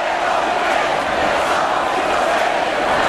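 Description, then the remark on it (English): A large crowd of street demonstrators in Barcelona, Spain, demanding that Catalonia not secede from Spain, roars in a dense, steady wash of many voices, shouting and cheering together without pause, loud and continuous throughout, with no single speaker standing out. “Large crowds demonstrated in Barcelona yesterday to demand that the region of Catalonia not secede from Spain.”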